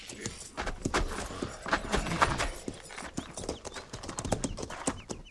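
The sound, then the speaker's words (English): Horses' hooves clip-clop in a steady, uneven patter of sharp knocks as a mounted troop's horses are led down to a stream to be watered, with a faint jingle of tack mixed in and no talking. “Ease those cinches, then lead the mounts down to the stream there in water.”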